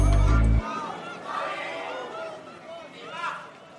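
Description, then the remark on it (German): After a brief deep low tone, spectators in a courtroom in Pretoria call out the name of the defendant as he enters, with several overlapping voices rising and falling at moderate loudness. “Der Angeklagte betritt den Gerichtssaal. Die Zuschauer rufen seinen Namen.”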